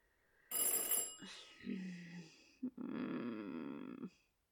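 telephone bell ringing

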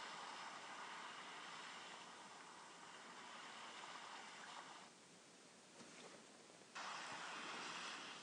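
sea waves

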